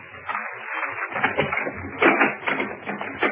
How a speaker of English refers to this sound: Ah, here we are. I'll knock.